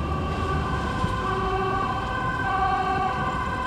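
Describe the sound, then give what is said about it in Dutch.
An emergency vehicle siren wails steadily in a street at the Stopera, its sustained tones loud and continuous over a dense rumble of traffic and city noise. “Waar jij maar komt, gaat de sirene af.”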